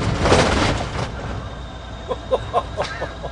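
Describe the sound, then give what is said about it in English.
A car's suspension thumps over a bump: a burst of low road rumble, then a quick series of four or five short, hollow clunks, with steady engine noise beneath. “Here comes a bump. Let's hear the suspension.”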